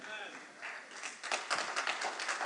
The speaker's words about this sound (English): Amen. I was dangerously close to the awkward church clap, but I appreciate the try.